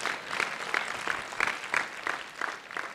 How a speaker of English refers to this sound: Praise God. You clap for me at least.